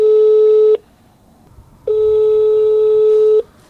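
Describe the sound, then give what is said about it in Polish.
Ringing tone of a phone call to a closed police station in Poland going unanswered: two long, steady mid-pitched electronic tones, the second longer, separated by about a second of quiet line hiss. No voices. “Nikt nie odbiera. Nikt nie odebrał.”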